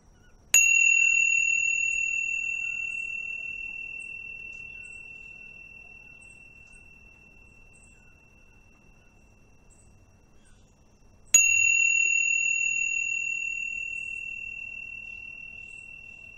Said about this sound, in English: In a moment, I will ring the bells again. And when I do, just let your full attention and awareness be with the sound of the bell and anchor your attention, refine your attention all the way till that point when it dissolves into silence.